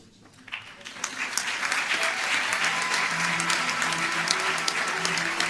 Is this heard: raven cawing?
no